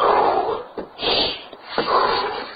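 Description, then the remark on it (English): A dog snorts and huffs in a few breathy bursts, an excited greeting as it is let out of the house after being inside all day, with no one talking over it. “Now let me out. I'll let you out. You're such a nice dog.”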